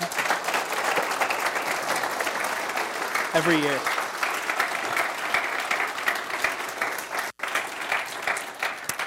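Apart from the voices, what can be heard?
audience applause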